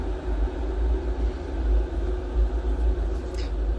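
Water being boiled for tea, with a steady, deep rumbling roar and a dense bubbling texture that holds for several seconds without a break. No one speaks.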